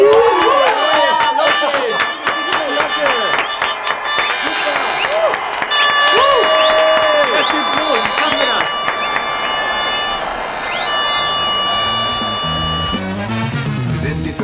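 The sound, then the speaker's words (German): A large crowd claps and cheers loudly and steadily for two youth football teams presented before a match, a dense wash of applause with shouting voices and occasional whistles rising above it throughout. “Bitte Applaus für die beiden Mannschaften.”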